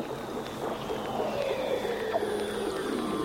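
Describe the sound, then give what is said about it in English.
Underwater hydrophone recording from beneath Antarctic sea ice at the sea ice edge, made by Doug Quinn with special equipment built to withstand the harsh conditions: eerie, sustained tonal whistles and slow descending glides drift over a constant watery hiss, with faint high ringing tones and no voices. “Quinn used underwater mics called hydrophones to capture these hauntingly beautiful sounds”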